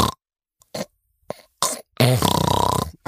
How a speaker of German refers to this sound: Nee, wir müssten es mit meiner Mama machen. Meine Mama schnarcht so krass.